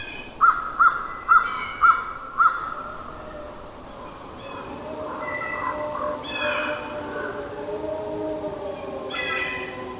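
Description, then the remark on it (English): A crow caws five times in a quick, evenly spaced, loud series, followed by softer, drawn-out tonal calls that rise and waver in the background. “You'll hear a crow, and then...”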